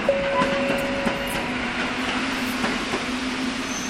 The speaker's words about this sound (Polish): Pociąg ekspresowy Lajkonik z Krakowa do Warszawy Wschodniej wjedzie na tor 5 przy peronie 1.